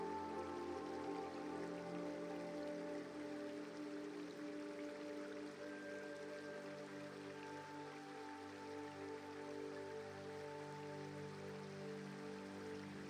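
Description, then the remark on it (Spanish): A river flows with a steady, unbroken rush of water, heard while walking along its banks in nature, soft and even throughout, with faint sustained tones humming underneath and no voices. “Echas a andar a orillas del relajante río.”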